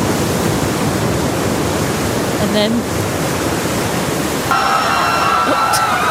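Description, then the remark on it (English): A loud, steady roar of ocean waves crashing fills the whole stretch, a dense rushing wash of water with no clear pauses, while a voice briefly speaks over it. “The sea, what did it do? It's waving and crashing.”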